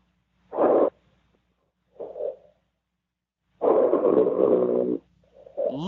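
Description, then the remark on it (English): Snoring heard over a phone line from a caller in the 111 area code on the Wrestling Night in America call-in show: a short snort, a softer breath, then a long rumbling, raspy snore with a gurgly tone, ending on another intake. No talking. “Literal snoring.”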